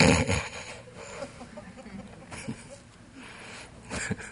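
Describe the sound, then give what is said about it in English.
Someone mimics snoring with their voice, producing rough, rattling snorts and raspy breaths in several uneven bursts, moderately loud. “You don't know what snoring is.”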